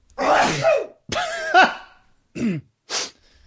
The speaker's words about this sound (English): Ooh, I'm gonna sneeze. Still not sneezing.